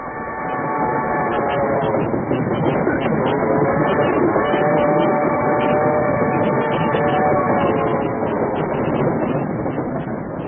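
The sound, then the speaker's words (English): A loud, steady rumble of a jolting train on a rough roadbed in 1895, with a droning mechanical hum and rattling noise running continuously the whole time, heard as if riding inside a carriage. “Gillette was attempting to shave with his straight-edge razor while traveling on a jolting train”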